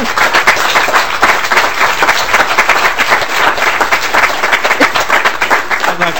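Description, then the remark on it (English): A crowd at a legislative hearing applauds to acknowledge a person's work, steadily for about six seconds, a dense, loud wash of many hands clapping at once with no pause, with a few faint voices mixed in. “Are we allowed to applaud? Yeah, we're allowed to applaud.”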